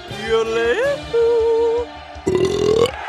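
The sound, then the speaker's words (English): Three long, loud burps in quick succession from the Swedish contestant in a burping contest, each drawn out and resonant, with the last one rougher and more forceful, with no other sounds around. “which is, wouldn't you know it, Swedish for burp.”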